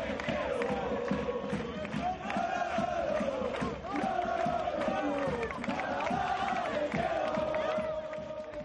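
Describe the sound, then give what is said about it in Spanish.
A large football stadium crowd at La Rosaleda stadium in Málaga celebrating Málaga's 3-0 win over Elche in the last regular league match, thousands of voices singing a repeating chant whose phrases rise and fall every couple of seconds over a steady, loud roar. “Recuerda, el Málaga ha quedado tercero en la tabla clasificatoria después de su goleada en el último partido de Liga Regular, 3-0 al conjunto del Elche, con fiesta en el estadio de la Rosaleda, como están escuchando de fondo.”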